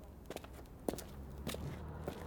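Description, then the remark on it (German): Footsteps walk along the Pölle street at a steady, unhurried pace, four or so soft scuffing steps over a low, constant background hum. “Wir gehen jetzt weiter bis zum Ende der Pölle, wo links das Eckhaus Nummer 56 steht, in dem sich die Pflanzenfärberei Rubia befindet.”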